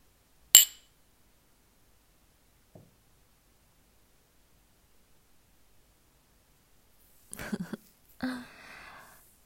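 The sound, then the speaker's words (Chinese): A single sharp, bright clink of glasses touching rings out in a toast while drinking alcohol, followed by a long quiet stretch and then a few brief clattering knocks and rustling handling noises near the end. “喝呀，干杯！”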